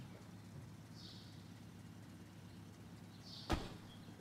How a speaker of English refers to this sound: The driver parks in front of the factory building. He gets out and opens the back door for Red, who steps out.